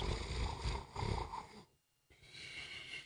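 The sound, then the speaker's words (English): A person mimics loud snoring, with rough, rattling breaths in a repeating rhythm, a brief silent pause, then a softer, wheezy continuation. “I didn't do the snoring.”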